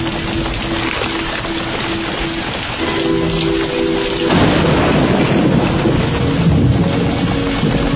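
Steady rain hisses throughout a rainstorm at 11 o'clock at night, then a deep roll of thunder swells in about halfway and rumbles on loudly to the end. No one speaks.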